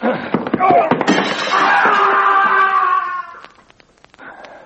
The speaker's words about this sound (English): you knocked him through the window.